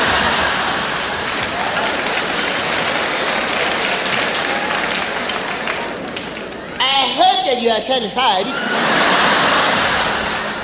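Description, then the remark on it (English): Water is poured from a cup and runs all down, splashing steadily in a continuous hissing rush, briefly interrupted by high, excited squealing voices before the splashing picks up again. “Grab the cup, pour the water, it runs all down.”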